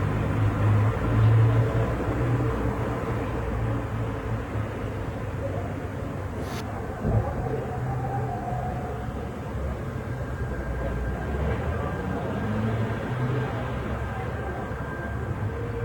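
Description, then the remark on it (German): Continuous low rumble of traffic and rail noise near a train station fills the background, steady and moderately loud, with a faint whine and a brief sharp clank partway through. “Ja, und er wohnt offensichtlich in der Nähe eines Bahnhofs. Jedenfalls hört man hier wunderschöne Verkehrsgeräusche im Hintergrund.”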